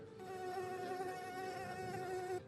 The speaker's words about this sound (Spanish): La mosca ahí, maten esa mosca. ¡Ey, mosca!